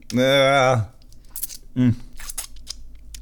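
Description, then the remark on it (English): Soft crackling, tearing sounds of a thick, sugary candy mixture still stuck to paper being peeled away, coming in short bursts between a loud, drawn-out groan and a brief vocal grunt. “It's still just stuck to the paper.”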